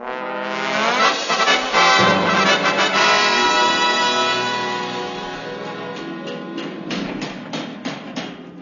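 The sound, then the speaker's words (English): Sharp knocks of hammering on wood by a band of workers from the village of Milton Street, erecting a wooden rocket at the base of a Martello tower on the Pevensey Marshes, ring out over a loud, sustained droning tone that swells at the start, with the blows growing more distinct and spaced toward the end. “The hammering you can hear comes from a busy band of workers from the village of Milton Street.”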